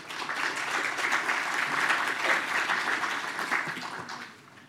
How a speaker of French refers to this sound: Et on va commencer tout de suite avec Sylvie Justhomme, qui est adjointe au maire chargée de la sécurité sanitaire, de la santé et des risques majeurs à Bordeaux. Merci de l'accueillir et de l'applaudir.